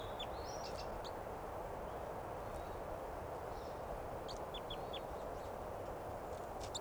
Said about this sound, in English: Wild Bird chitter first. Wild. Chitter of the Wild Bird.